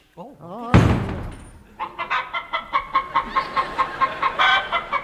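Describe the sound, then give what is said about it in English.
A man's voice imitates a rooster, letting out a loud crow-like burst followed by a rapid, rhythmic series of clucks, about a dozen in steady succession. “it's turned him into a male chicken.”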